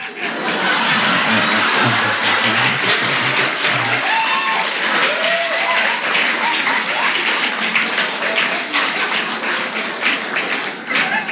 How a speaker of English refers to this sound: That applause all came from the back part, not the Church of Religious Science. So you can rest easy.